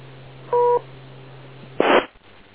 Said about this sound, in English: Wait for the beep. Go ahead.